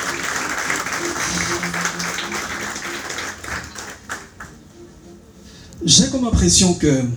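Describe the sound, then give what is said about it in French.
An audience at the Gala 2025 applauds in a steady, dense patter of many hands for a few seconds, then the clapping thins into scattered claps and fades as a voice begins talking. “Est-ce qu'on peut applaudir encore très fort, s'il vous plaît?”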